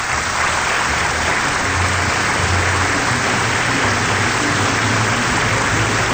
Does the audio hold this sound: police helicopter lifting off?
no